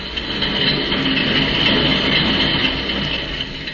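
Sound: train running on rails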